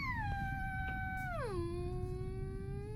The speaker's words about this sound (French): Qu'est-ce que c'est ? Hurla Peter en se bouchant les oreilles, tandis que certaines parties métalliques du sous-marin vibraient. « Le chant d'une baleine !» répondit le professeur.